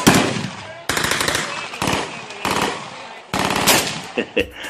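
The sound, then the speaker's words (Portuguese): Loud bursts of automatic gunfire in the Jacarezinho favela, Rio de Janeiro, several rapid volleys of sharp cracks fired one after another with short pauses between, ending in a couple of isolated shots. “Jacarezinho é assim, tipo assim, se tu acordar e não ouvir barulho de tiro...”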